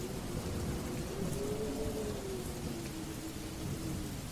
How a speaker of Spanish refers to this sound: Aquella noche de tormenta parecía el preludio de una pesadilla. El cielo estaba en constante furia, iluminado por relámpagos y ensordecido por truenos que hacían temblar el suelo.